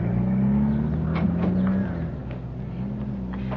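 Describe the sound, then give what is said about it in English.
A car engine rumbles loudly, its low hum rising as it revs, then easing slightly as the vehicle pulls away, with no voices. “Now, if you'll excuse me, there's a car waiting to take me home.”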